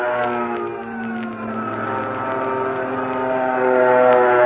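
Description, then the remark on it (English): A fighter plane's engine drones steadily with a dense, buzzing roar that swells louder toward the end as the aircraft takes off, another fighter plane following the first. No voices are heard. “There goes our first fighter plane.”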